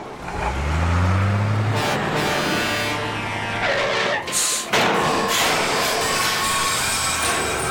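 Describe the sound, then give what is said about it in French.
A large garbage truck rumbles loudly, its engine roaring and shifting as it pulls away to empty the town's bins, with a few horn toots in the opening seconds and a clatter midway. “Le camion poubelle est prêt pour aller vider toutes les poubelles de la ville.”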